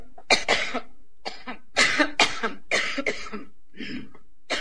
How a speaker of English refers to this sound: You get to hear Hillary cough for a minute here.